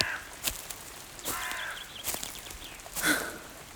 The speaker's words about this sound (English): Just a lovely, natural birdie. Just a silly old crow.